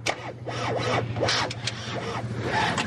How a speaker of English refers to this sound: and we've got a Sherpa van. We're just trying to get it started. Just 5 minutes. The Sherpa is big and strong, ideal for the Ted's plan to carry huge amounts of water. But it seems the van doesn't want to shift.